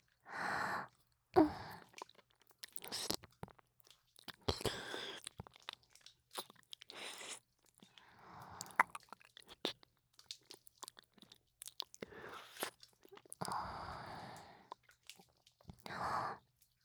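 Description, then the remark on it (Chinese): Crisp crunching and wet chewing sounds repeat in irregular bursts, interspersed with soft breathy sighs and gasps, with no speech. “剩一半了，吃下去，乖。”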